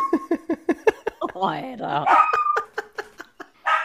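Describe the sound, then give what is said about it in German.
A dog lets out a run of quick, sharp yips, breaks into a wavering, rising howl in the middle as it howls along with a siren, then goes back to short yelps. “Ja, der jault immer mit der Sirene.”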